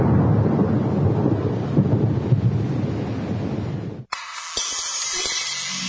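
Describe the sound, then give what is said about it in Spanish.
A thunderstorm with a deep, continuous rumble of thunder over steady rain, loud and enveloping, cutting off abruptly near the end to a brighter hiss of rain and wind. “Tormenta eléctrica.”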